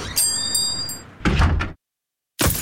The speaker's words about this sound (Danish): Et steneslag!